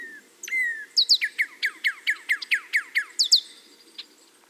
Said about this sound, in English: The bill can modulate a bird's songs and calls. Just watch a singing bird and you'll see how it opens and closes its bill to shape the sound coming out of its mouth.